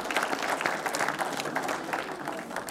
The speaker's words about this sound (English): So let's give a round of applause for our kids as they march their way up here and have a seat right here on the floor.